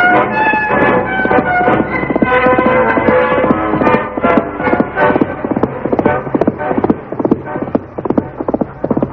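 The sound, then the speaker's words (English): The hooves of Silver, the Lone Ranger's horse, clip-clop in a quick, steady, loud rhythm for several seconds over a sustained tonal background that fades slightly toward the end. “Called his horse Silver.”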